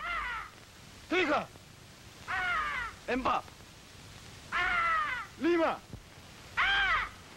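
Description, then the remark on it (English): A white peacock in a jungle calls six times, loud, harsh, wailing cries in a steady rhythm, while a man shouts out a count in Malay between them. “That was the call of the white peacock.”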